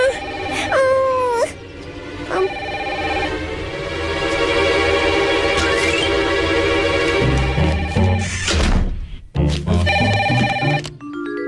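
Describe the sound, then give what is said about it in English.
A telephone bell rings loudly, a bright, continuous electronic trill with warbling tones that pauses briefly near the end before resuming in shorter bursts. “Honey, honey, can you get that?”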